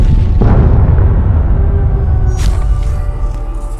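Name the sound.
explosion boom effect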